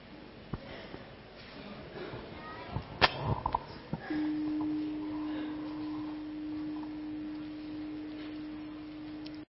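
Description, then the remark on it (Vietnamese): A meditation bell struck three times to close a session: a few sharp knocks lead into a single low, steady ringing tone that hums on evenly for several seconds until the end, with no voices. “Rồi mời các bạn nghe ba tiếng chuông để chúng ta kết thúc, chúng ta hết giờ rồi.”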